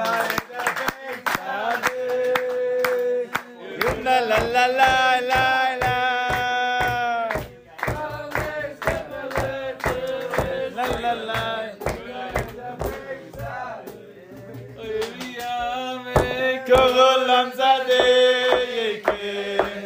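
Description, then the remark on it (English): A crowd claps together in a steady, rhythmic beat while many voices sing and cheer loudly over it for the whole stretch. “Can we give a quick round of applause?”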